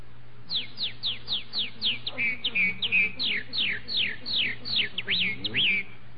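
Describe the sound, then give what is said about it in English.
A person whistles an imitation of a red-winged blackbird: a rapid run of sharp, descending chirps and brief warbling trills, fairly loud, over a faint steady low hum. “Red-winged blackbird.”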